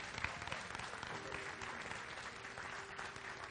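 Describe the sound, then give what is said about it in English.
An audience applauding steadily after a blessing, a dense wash of many hands clapping at once that holds an even level throughout, fairly loud, with no talking over it. “Come on, give them a big hand clap.”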